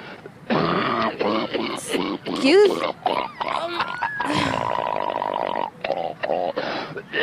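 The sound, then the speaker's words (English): A string of odd, grunting coughs, throaty bursts with snorting, pig-like voiced noises, some rising in pitch, repeating irregularly across several seconds at moderate loudness. “I've had a weird cough the last couple of days.”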